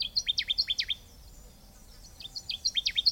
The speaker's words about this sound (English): The best way to track down a Connecticut warbler is by listening for its loud and distinctive song.